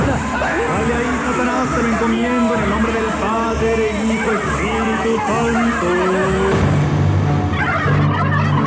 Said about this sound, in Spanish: … seguía provocando su encuentro con el pavo. ¡Pavo, tájame, muérdeme! ¡Pavo, pavo! ¡Aquí estoy, pavo!